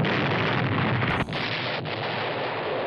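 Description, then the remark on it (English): A loud, rumbling explosion roars steadily for a few seconds, thick with crackling debris noise and no pause until the end. No voices are heard. “I like boom. Mm-hmm. Want me to play it?”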